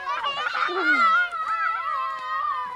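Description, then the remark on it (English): Several children shout and squeal at once while playing outdoors, putting a toy car on a big pile of leaves, their high-pitched voices overlapping in a loud, continuous jumble of excited cries with no clear words. “The kids are putting the toy car on a big pile of leaves and shouting loudly.”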